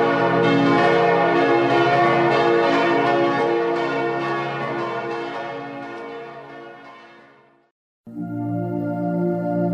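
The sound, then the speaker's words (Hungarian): Church bells ring in a loud, continuous peal with rich overlapping tones, fading out briefly before the ringing starts up again just as strongly. “Szeretnék én is ilyen harang lenni, hangomat vinné száguldva a szél.”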